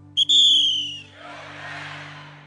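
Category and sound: signal or alarm, whistle blast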